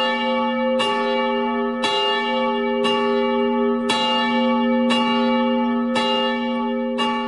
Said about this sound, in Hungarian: A középső harang amúgy 420 kg-os volt. A legkisebb az mekkora volt? Majdnem a fele, 220 kg-os.